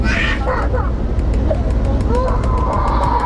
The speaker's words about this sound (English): Crying baby always finds you.